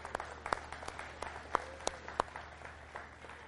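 Scattered applause from a small audience, a mix of irregular claps with a few sharper, louder ones standing out, continuing steadily for a few seconds without any voices.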